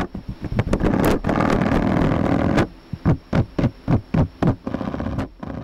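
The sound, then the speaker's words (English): A male spider's mating vibration song, sent down its legs into the surface it stands on and recorded with a laser vibrometer in Damian Elias's lab at UC Berkeley: a dense, rattling buzz for the first half, then a series of about eight evenly spaced, throbbing pulses. No voices. “Male spiders send vibrations down their legs and into whatever they're standing on.”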